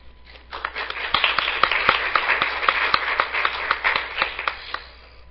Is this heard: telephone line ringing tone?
no